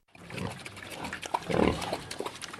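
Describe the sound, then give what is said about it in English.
Several big pink pigs in a farmer's pen in a village on the outskirts of Beijing, China, grunt and snort at feeding time, a busy overlapping chorus of short guttural calls with a wet, sloppy undertone and no talking. “It's feeding time for the big pink pigs in farmer Zhu Shangzun's pen.”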